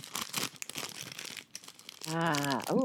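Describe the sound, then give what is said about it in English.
Crackly crinkling of the cellophane outer wrapper of a Reese's peanut butter cup, a Halloween candy, being unwrapped in irregular bursts for about two seconds, followed by a voice vocalizing at the end. “Once you open the outer package of the candy, there's another piece of sort of paper.”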